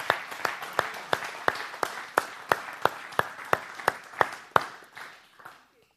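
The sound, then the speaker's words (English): A crowd applauds because God is at work, with one loud, steady set of hand claps keeping a regular beat over the softer clapping of many hands. Everything fades out near the end. “Oh, that deserves a better hand clap, not because of the way I said it, but because God is at work.”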